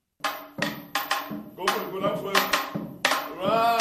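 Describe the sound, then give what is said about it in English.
Half a dozen teenagers with Dance Kaiso, in a computer lab next to San Francisco's juvenile court, clap pairs of bamboo sticks together in the jambalasi, a Caribbean carnival rhythm: each sharp wooden clack followed by a brief ringing tone. About eight strikes sound in quick succession, some doubled, at a fairly loud level. “Each holds a pair of bamboo sticks. Their heads bow and brows furrow as they clap out the jambalasi, a Caribbean carnival rhythm”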